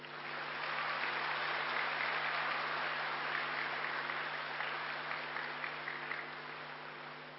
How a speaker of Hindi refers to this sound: किसी ने कहा है कि ताली बजाने से हार्ट अटैक नहीं आता, इसलिए जोर से बजाइए।